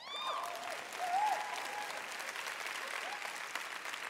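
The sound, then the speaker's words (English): A crowd applauds steadily for about four seconds, wives and would-be wives answering a show-of-applause question, a dense, even patter of many hands clapping at once, with a few faint whoops and cheers rising over it. “By show of applause, how many of you would be very happy to follow a husband who lived up to that?”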